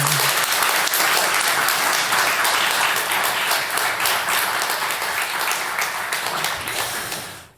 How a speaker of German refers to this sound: Ja, vielen Dank für den Applaus. Sind doch mehr Leute erschienen, als ich tatsächlich erwartet habe.